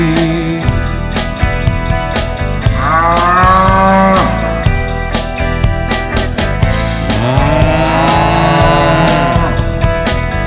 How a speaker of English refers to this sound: He don't run, he don't even try, and this is what it sounds like when cows cry.